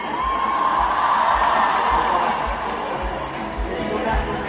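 A large concert crowd roars with sustained cheering and applause, a dense continuous wash of noise with scattered whoops, steady and loud throughout with a faint regular low thump underneath.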